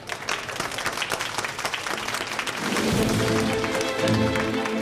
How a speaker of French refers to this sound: Et pour vous remercier, vous, cher public, qui êtes venus très nombreux, qui avez été extrêmement attentifs et qui nous avez portés littéralement pendant une semaine, je vous propose de vous applaudir vous-même.